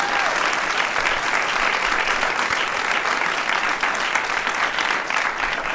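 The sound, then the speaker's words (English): Steady, loud audience applause for the show's producer and host fills the whole stretch, a dense crackle of many hands clapping at once with no pauses or speech breaking through. “Please give this man a round of applause.”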